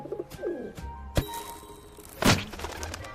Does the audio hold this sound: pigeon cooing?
yes